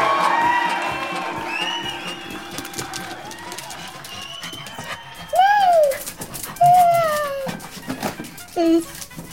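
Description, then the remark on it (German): A dog whimpers, three drawn-out, falling whines in the second half, while a child rides on its back, over a busy background of murmuring voices and household bustle. “Hat die Welt jemals einen geduldigeren Hund gesehen?”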